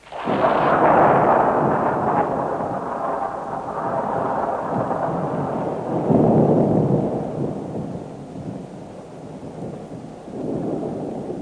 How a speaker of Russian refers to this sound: Еще ведь далеко гроза-то. Да? Ну-ка, или далеко, так подождем, пожалуй.